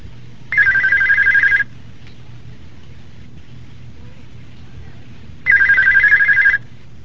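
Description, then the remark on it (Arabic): A telephone rings twice for a call-in question-and-answer recording in the Al-Huda wal-Nur series, each ring a steady trilling burst about a second long, separated by a few seconds of quiet with faint background hiss and a low hum. “من سلسلة الهدى والنور أجوبة على أسئلة عبر الهاتف.”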